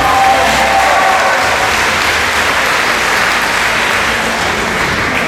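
A crowd breaks into steady, loud applause, dense clapping holding at an even level for about five seconds with a faint murmur of voices underneath.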